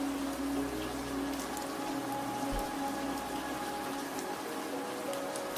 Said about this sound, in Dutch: En terwijl je naar de regen luistert, stel je je voor dat de regendruppels alle spanningen en zorgen van je afspoelen.